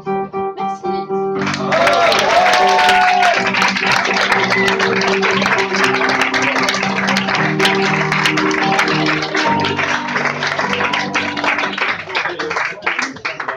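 A French-language song's final held notes give way to a loud burst of sustained crowd applause for the singer, dense steady clapping mixed with cheering and a few whoops that continues to the end.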